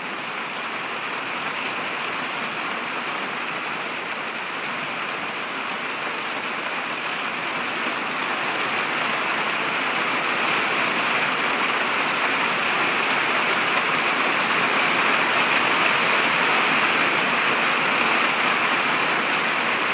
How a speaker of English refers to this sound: It is really, really raining hard.